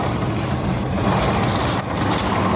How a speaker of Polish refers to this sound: Oj, ciężko mi się te drzwi otwierało. Muszę ci powiedzieć, że naprawdę nie było łatwo.